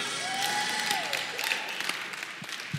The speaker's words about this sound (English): Okay, here we go. Huh? How about a hand clap?